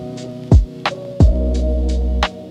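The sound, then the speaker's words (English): A steady, low refrigerator hum drones on without speech, broken by a few short thumps and clicks that briefly push it louder before it settles back to a constant buzz. “Just the hum of the fridge filling up the quiet.”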